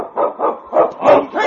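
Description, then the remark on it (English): Husky sled dogs bark in a rapid, overlapping chorus, five or six loud yelping bursts in quick succession, with no talking, at the opening of the radio show Challenge of the Yukon. “On, you huskies!”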